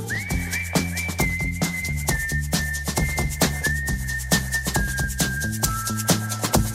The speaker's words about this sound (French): Les sifflements sont très similaires et c'est normal.